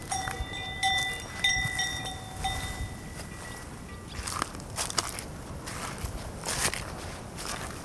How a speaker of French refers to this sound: Ou un petit groupe de chevaux sur la prairie se repose. Semble aussi attiré par ma venue.